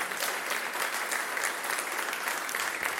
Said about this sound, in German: Genau, auch das ist einen Applaus wert.